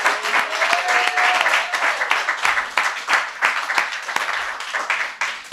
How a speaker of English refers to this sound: One more big round of applause for all of our storytellers.